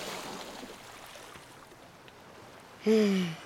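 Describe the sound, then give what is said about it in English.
A soft, steady rush of ocean water as a wave washes in over a sandcastle and topples it, lasting a few seconds, then a sudden loud, low tonal blare cuts in briefly at the end. “A wave washes in and topples the castle.”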